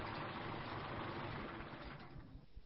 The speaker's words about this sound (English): Wait a minute. Let me turn off my engine.